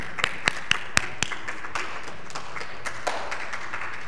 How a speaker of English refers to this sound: Boy, good job, guys. Everybody give yourself a round of applause.